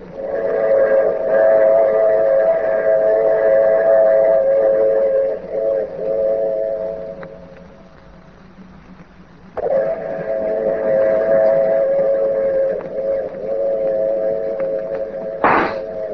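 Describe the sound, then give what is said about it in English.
A train's whistle blows two long, loud, steady blasts separated by a short lull at a railway platform, with a brief sharp crack cutting in near the end. “The train platform was empty, save for Lieutenant Gregg and me.”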